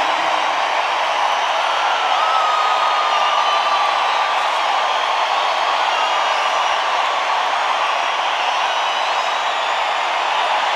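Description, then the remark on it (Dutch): A crowd, asked to make as much noise as possible, roars and cheers continuously, a loud, dense wall of shouting and whooping voices that holds steady without pause, with a few higher whistles or yells standing out. “Maak maar zoveel mogelijk lawaai.”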